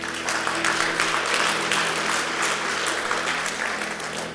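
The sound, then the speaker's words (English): An audience at a prayer service claps steadily for the people who just put up their hands to give their hearts to Jesus: a dense, sustained patter of many hands at a fairly loud level throughout, with a low hum underneath and no talking over it. “Let's give them a clap, guys.”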